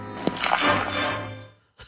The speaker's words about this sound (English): So in that clip, you hear the pouring. He's pouring a cup of Gatorade, and then he says he has a drinking problem and just splashes the cup all over his face.